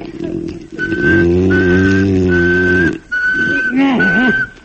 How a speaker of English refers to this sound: Oh, I've tried everything. They say if you whistle in a monotone, maybe that'll work.